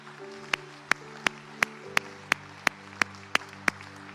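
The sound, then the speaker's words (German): Steady rhythmic clapping, about ten sharp claps in even time, rings out over sustained keyboard chords, like an audience clapping together to music. A church audience is applauding those who have just given their lives to Jesus. “Hey, kommt, lasst uns all denjenigen, die gerade ihr Leben Jesus gegeben haben, einen riesigen Applaus geben.”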